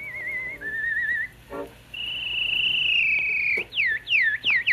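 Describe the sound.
A solo whistling artist performs a melody on an early Edison recording, with warbling trills, long sustained notes and quick swooping bird-like glides, heard alone over the steady hiss and hum of the old recording.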